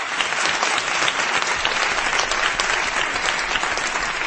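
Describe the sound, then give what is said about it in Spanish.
Steady, dense applause from an audience of listeners of the radio programme La Rosa de los Vientos, gathered at the Paraninfo de la Laboral in Gijón, a continuous crackle of many hands clapping at an even loudness for the whole stretch, with no voices standing out. “Y espero que te lleguen desde aquí el aplauso lleno de cariño de todos nuestros oyentes.”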